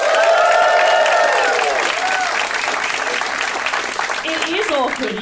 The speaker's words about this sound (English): But give me a round of applause, ladies and gentlemen, if you've ever heard the Do Go On podcast before.